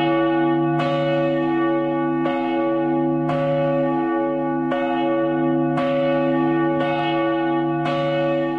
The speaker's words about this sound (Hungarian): A legnagyobb harang 1760 kg. Mi volt rajta a felirat? A reformátusok ősi himnusz, a 91. oltárnak a nyitóverse, Te benned bíztunk erejétől fogva, Uram, és volt egy nyitott könyv, egy tekintélyes méretű harangról van szó.